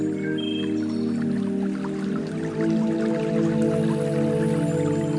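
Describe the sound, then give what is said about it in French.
A steady trickle of a stream flowing through a garden, with light dripping sparkle, runs over a sustained, droning musical pad, soft and continuous with no voices. “Au milieu de ce jardin coule un ruisseau.”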